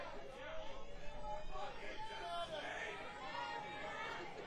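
An unruly crowd at a live show murmurs and chatters continuously, many overlapping voices blending into a steady, moderately loud babble with no single speaker standing out.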